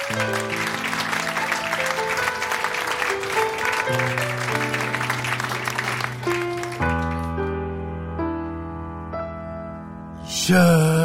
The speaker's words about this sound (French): On applaudit.